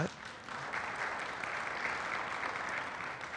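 A church audience claps after hearing that Hillside Church won the vote for the church's future name, a steady, dense wash of applause that holds at an even level for a few seconds, with no voices standing out above it.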